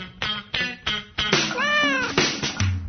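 Two cats, Celsius's cat and Fahrenheit's cat, yowl and meow in a quick series of short, sharp bursts, building into a long, wavering drawn-out cry, with hissy, snarling edges as they squabble.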